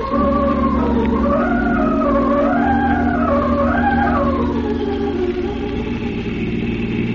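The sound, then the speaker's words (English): A car engine roars steadily at high speed with the accelerator pressed to the floor, its pitch rising and falling in waves as it revs and shifts, with a constant low rumble underneath and no voices. “But can't you go any faster, Tyler? My foot's on the floor now.”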